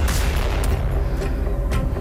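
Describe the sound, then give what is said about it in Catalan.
A loud, dramatic exclusive-news music sting played on a Catalan radio show, with a heavy, rumbling low end and sharp percussive hits striking about every half second, playing on its own without any voices. “Posa'm música d'exclusiva, Fran. Mira, ara sona l'exclusiva.”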